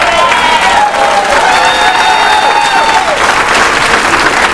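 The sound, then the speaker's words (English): Steady, loud audience applause at a Narcotics Anonymous meeting for a speaker's 30 years clean fills the whole stretch, a dense wash of many hands clapping with some whistles and cheering mixed in, no single speaker standing out. “Don't clap for me, clap for y'all, because there was people like y'all that motivated me to stay here and not to use one day at a time.”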